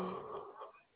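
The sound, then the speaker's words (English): A single sneeze, a breathy, noisy burst that trails off over about a second, with no talking during it. “oh, bless you, tired?”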